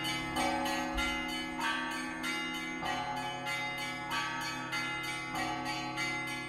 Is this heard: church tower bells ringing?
yes